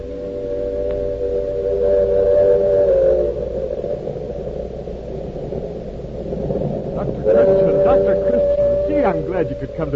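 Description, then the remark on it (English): A train rumbles steadily at a railway platform while its whistle sounds two long, steady blasts, one early on and another near the end, fairly loud over the continuous low rumble. “Train's due in a minute. Come on down to the end of the platform”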